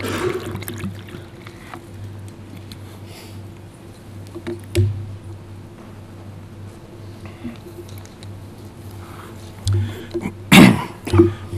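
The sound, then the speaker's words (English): A person takes a quiet sip of water over a steady low hum, then gives a short, louder throat-clearing cough near the end. No one speaks. “And I think a little water will help my private domain.”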